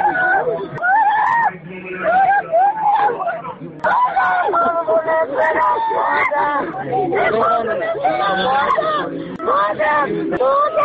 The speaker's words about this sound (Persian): با ترس به چشمایم نگاه کرد، گفت مادر سهراب را کشتند. کسی جلودار فریادهای مادر سهراب نیست.